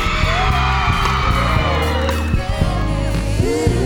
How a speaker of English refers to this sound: Where all the pretty ladies at tonight? No. All the pretty ladies, let me hear you scream.